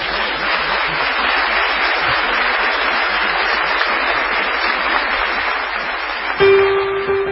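A crowd applauds steadily for several seconds in the Teatro Florencio Sánchez theater in Paysandú, a dense, even wash of clapping from many hands, ending as a brief tonal sound cuts in.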